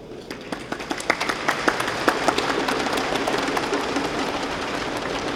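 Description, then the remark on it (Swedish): An audience at a 50th anniversary celebration claps in a burst of applause for guests who took part 50 years earlier, sharp individual claps rising over a dense, steady patter that stays fairly loud throughout the few seconds. “Och jag tycker vi ger dem en hjärtlig applåd.”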